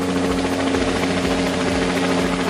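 A helicopter drones steadily overhead, its loud, continuous rotor and engine noise filling the air with a thick, rumbling hum and no pauses throughout.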